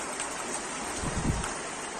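nature, rain shower

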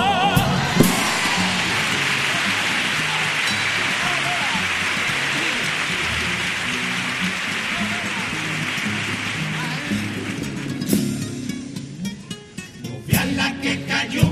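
nature, heavy rain shower

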